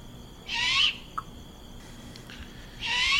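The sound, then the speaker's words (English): Two harsh, raspy hissing calls from a young owl begging for food, each about half a second long and spaced a couple of seconds apart, standing out clearly over a quiet background hum. “And you'll hear that usually at dusk or in the night, and that's usually an immature bird that's begging for food. It's basically with that raspy note saying, feed me, mama, feed me, daddy, feed me, I'm hungry, feed me.”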